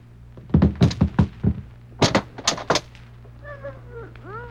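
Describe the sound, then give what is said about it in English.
A door being opened: a quick run of heavy wooden thumps and rattles, a short pause, another burst of knocks, then a thin, wavering creak as it swings. “Open that door there.”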